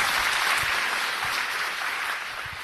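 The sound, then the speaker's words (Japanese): Steady audience applause after a talk, a dense crackle of many hands clapping at an even, fairly loud level that eases slightly toward the end, with no voices over it. “皆様もう一度大きな拍手をお願いいたします。”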